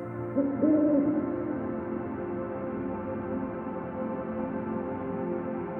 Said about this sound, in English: As you watch from the window, the owl spreads his wings, hoots, and comes to the windowsill.